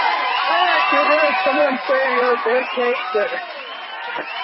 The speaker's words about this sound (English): Woo! I like the applause better.